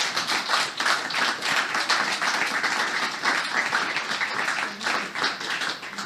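An audience applauds steadily to welcome a journalist guest, a dense, even wash of many hands clapping at once that keeps a consistent loudness for several seconds, with no voices on top.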